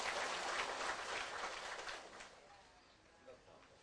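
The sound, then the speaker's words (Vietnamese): A crowd of Buddhist followers at a morning closing ceremony claps in welcome, a dense, crackling burst of applause that starts loud and steady, then gradually thins out and fades over the last couple of seconds. “quý đạo tràng nam nữ Phật tử về tham dự lễ bế mạc sáng hôm nay, thay mặt ban tổ chức chúng con xin được hân hạnh đón tiếp bằng một tràng pháo tay và xin được trân trọng kính giới thiệu chung.”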